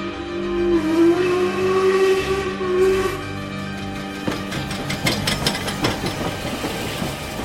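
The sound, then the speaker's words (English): A train pulls in at a platform: a sustained, droning tonal whine for a few seconds, then loud rumbling with rhythmic clanks and metallic brake screeches as it slows. No voices. “Come on. Train is here.”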